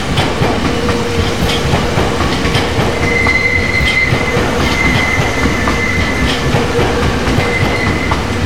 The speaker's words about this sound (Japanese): 大宮方面行き、川越経由、源東京行きが到着いたします。危ないですから、比叡線の内側までお離れください。